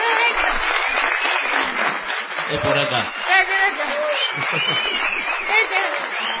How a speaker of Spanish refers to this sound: Vamos a saludar, es un teatro pequeño, y saludemos ya no con las ovaciones desmesuradas de otros foros, sino con discretos aplausos.